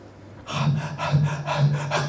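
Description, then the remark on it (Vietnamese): Heavy, rhythmic panting of a young man sitting down: about four loud, breathy huffs in quick succession, each carrying a faint voiced groan, with no talking. “ra chọt đất dài hơi ngồi thở, thanh niên không mà ngồi thở như là trâu vậy.”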